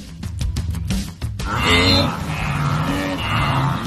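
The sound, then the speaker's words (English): A migrating herd of wildebeest: a quick run of sharp thuds opens, then many overlapping nasal, moaning grunts and honks drone on together, loud and continuous. “Oh, it's wildebeest. Okay. It's a migrating herd.”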